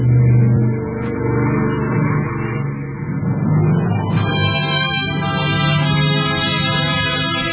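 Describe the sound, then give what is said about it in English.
A car engine revs loudly and steadily, its pitch climbing as the vehicle pulls away and drives off, with no voices over it. “Sergeant, the car!”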